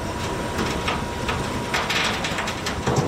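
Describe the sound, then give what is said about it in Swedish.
A 10,000-ton, 135-metre container ship being slowly dragged free from the shoreline out to sea after several containers were unloaded: a steady, heavy mechanical rumble and grinding hiss, with brief louder surges of scraping noise rising and falling throughout, no voices. “Vi ska lyssna då hur det kan låta när man då ska dra loss ett 10 000 ton tungt containerfartyg här, ska vi se.”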